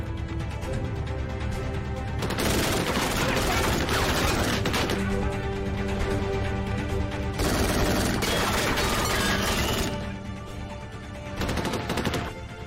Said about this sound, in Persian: آماده ساز یه باتری ها. بله قربان. سمت راست کشتی آماده شلیک.